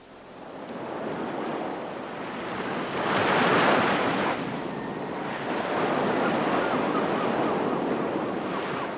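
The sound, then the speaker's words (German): Steady Baltic Sea surf washing onto the German coast with wind rushing across the microphone, a louder wave surging in around the third second before settling back into a continuous roar. “Mit ausgebreiteten Armen die Ostsee begrüßen, die Stirn himmelwärts richten, die Augen schließen, vom Wind empfangen werden, der Mund und Wangen streicheln.”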